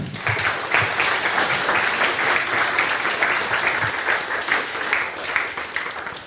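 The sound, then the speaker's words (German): An audience at the FrostCon conference breaks into sustained applause welcoming a speaker, a dense, steady clatter of many hands clapping for about six seconds before tapering off slightly at the end, with no talking over it. “Bitte einen ganz großen Applaus für Marco.”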